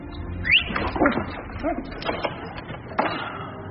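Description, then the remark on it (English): A dog whimpers and whines in high, sliding yelps, with a few short bark-like bursts mixed in over a continuous low background rumble. “But I'm taking the dog.”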